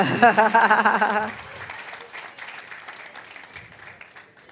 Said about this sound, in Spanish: Sí, mírala allí. Venga huyendo. Mira, un aplauso a mi suegra para acumular puntos.